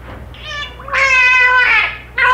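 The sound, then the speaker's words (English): A dolphin imitates the spoken word "Margaret", rolling almost into the water to muffle it with its blowhole, producing loud, squeaky, nasal tones in three syllable-like bursts, the middle one longest, with no people talking over it. “He would eventually roll over almost into the water with the blowhole to muffle the Margaret.”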